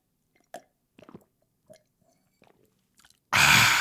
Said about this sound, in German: Ja, das bedeutet auch, und das habe ich auch aus anderen Podcasts, dass man mal irgendwie was trinken muss zwischendurch. Das hört sich dann so an.